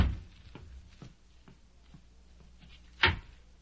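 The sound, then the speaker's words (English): Soft, evenly spaced footsteps, then a sharp latch click and clunk as a door is pulled open to see who is at the door, louder than the steps. “See who's at the door”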